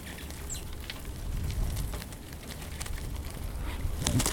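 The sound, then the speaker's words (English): Dense, rapid tapping and clicking of a flock of rosy finches furiously pecking at birdseed at a feeder in Mountain Village in winter, a busy continuous patter with a few faint chirps mixed in and no talking. “The birds travel in flocks, and on this day, it's a bonanza as they furiously peck at the birdseed.”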